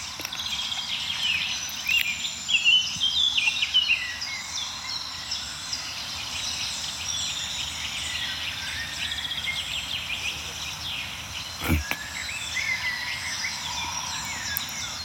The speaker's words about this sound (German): Ja, wir hören so einen milden Amselteppich noch um uns herum, also so einen Klangteppich aus verschiedenen Amseln, die von weit oben singen.